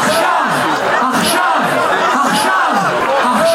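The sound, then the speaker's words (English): A large protest crowd in Tel Aviv, Israel, rallying for hostages held by Hamas, chants "Achshav, Achshav" ("now, now") in Hebrew in a loud, steady rhythm, many voices rising and falling together in repeated pulses, dense throughout. “Crowd in Tel Aviv, Israel, rallying in support of the Israelis and others held hostage by Hamas for a month now, chants in Hebrew, Achshav, Achshav, meaning now, now.”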